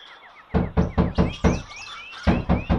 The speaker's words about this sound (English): When she arrived at Snow White's house, she knocked at the door.